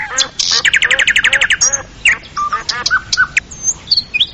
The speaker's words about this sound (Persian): پرنده مرغ مینا، پرنده بسیار قشنگ و مقبول است